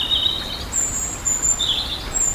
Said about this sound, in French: C'est sous le chant du rouge-gorge que nous allons faire maintenant une pause musicale.